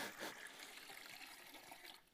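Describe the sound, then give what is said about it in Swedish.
Water pours steadily into a basin for a foot washing, a continuous splashing trickle that holds an even level for a couple of seconds, not loud, with no voices over it. “Men här står det faktiskt att Jesus han häller allting i här.”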